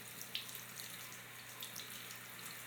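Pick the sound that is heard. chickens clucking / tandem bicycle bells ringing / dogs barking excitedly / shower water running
shower water running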